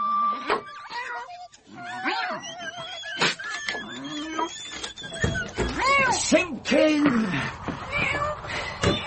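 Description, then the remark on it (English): The tailor's cat, Simpkin, meows repeatedly and insistently, a string of rising and falling cries over several seconds, some drawn out and whiny, with scattered clicks and rustles in between. “The tailor shuffled home to Simpkin, his cat.”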